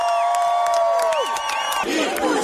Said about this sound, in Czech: Hiljada ljudi okupilo se u centru Bukurešta kasno u nedjelju kako bi proslavili nakon što je po svemu sudeći centristički gradonačelnik Nikos Urdan pobijedio na predsjedničkim izborima.